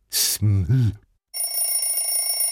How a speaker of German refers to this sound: Als der Wecker am nächsten Morgen klingelte, schnellte Elias mit einem Ruck aus dem Bett.